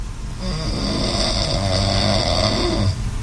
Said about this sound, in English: Can I hear myself snoring one more time, just for my own sanity?